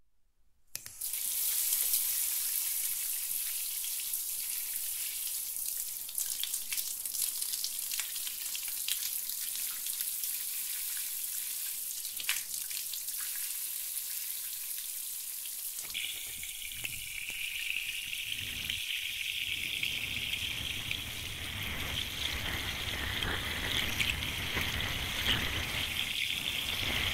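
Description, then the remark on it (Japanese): A steady shower spray hisses for nearly half a minute as a seated person's whole body is rinsed, starting from the head, its tone deepening and splashing more heavily partway through as the water starts striking the body. No one speaks. “まずは、シャワーで全身を。”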